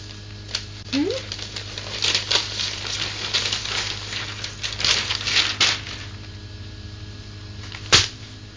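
Irregular papery rustling and crinkling as a child handles a newspaper, with scattered crisp bursts and a sharper crackle near the end over a steady low hum.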